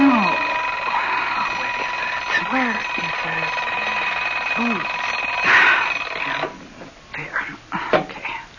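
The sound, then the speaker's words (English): An alarm clock rings loudly and steadily for about six seconds, with low mumbling voices beneath it, then stops abruptly and a few short rustling bumps follow. “Oh, don't forget to set the clock.”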